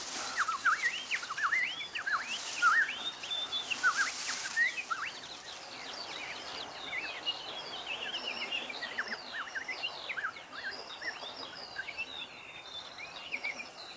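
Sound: birds singing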